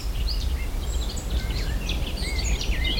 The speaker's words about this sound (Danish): Kan du høre det? Ja, hvad var det? Det er en fugle her, munken. Munken. Jeg har så mange fugle her i haven. Dem vender vi tilbage til. Ja. Hvad særligt ved munken? Munken, den er en lille, fin sanger, som er kommet helt fra Sydafrika nu. Hør.